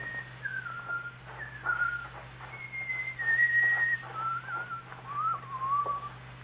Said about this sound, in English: have that good-for-nothing loafer put in jail where he can whistle to his heart's content.